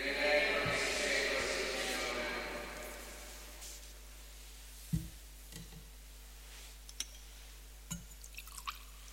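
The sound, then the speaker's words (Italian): A small amount of water is poured into wine in a chalice during a Mass, a faint trickle and drip over a steady background hum, followed by a few soft clinks of the vessel. “L'acqua unita al vino sia il seme dell'unione con la vita divina”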